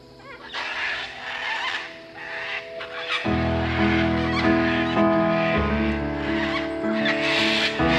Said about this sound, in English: This world, where cockatoos riot in distant trees and then take off, filling the heavens like the stars we do not see.